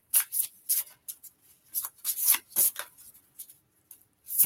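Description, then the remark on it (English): Cards from a stiff, brand-new deck being shuffled: a string of crisp, papery riffles and slides in irregular bursts, with a few brief pauses, and no voices. “In this deck, we're going to shuffle again because just to be sure.”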